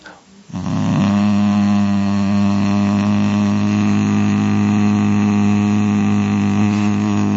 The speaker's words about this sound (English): Okay, so, you produce a deep hum and then you will feel it